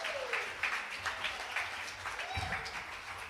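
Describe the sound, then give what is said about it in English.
A church audience applauds steadily with dense, continuous clapping in an ovation honoring the dads present, mixed with scattered cheers and whoops rising above it; the sound stays loud and sustained throughout. “can we honor all the dads in the house with a giant ovation?”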